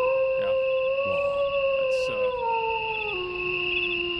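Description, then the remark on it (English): A person howls like a wolf, one long, loud wail that holds steady and then slides downward in pitch over about four seconds, with no talking. “If I can borrow your howl”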